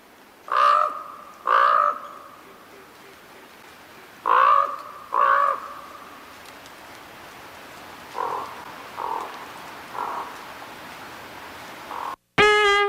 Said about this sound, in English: Again, what are we hearing now? This is the common raven, also known as my dad's ringtone.